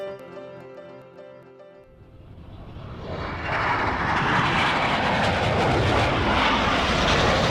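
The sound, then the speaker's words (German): A short tonal musical passage gives way to a rising, swelling roar of aircraft engines as planes fly over Brinkebüll leaving white trails in the sky; the sound grows loud and broad, holding a steady rumbling drone through the end with no talking. “Die Flieger hinterließen Spuren.”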